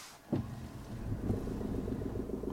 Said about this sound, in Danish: Jeg trykker på en startknap, og så starter dieselmotoren.